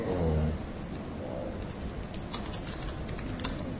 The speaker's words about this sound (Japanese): あのタイピングの音もバッチリ、はい、拾ってますから。この間はどうするんですか。待ってるんですか。このネットからこう情報を拾ってくるこの間は喋んなくていいんですか。